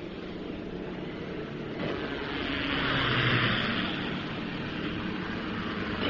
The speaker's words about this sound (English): There. Coming choppers.